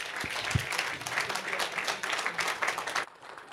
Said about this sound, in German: Einen großen Applaus und los geht's.